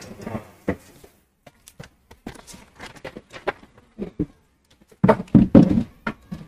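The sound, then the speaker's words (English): A chair thumps and knocks in an irregular series of dull, hollow bumps, with scattered single hits and a louder cluster of rapid thuds toward the end, and no talking. “Oh, it's my chair.”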